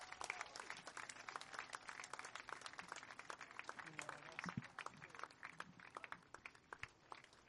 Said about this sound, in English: Ladies and gentlemen, let's hear a round of applause for the Frog X Parachute Team.